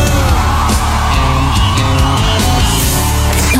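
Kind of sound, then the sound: crowd, crowd yelling and cheering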